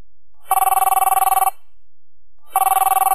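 A telephone rings in two clear bursts, each a rapid, buzzy electronic trill lasting about a second, separated by a short pause. The ringing is loud, with no voices.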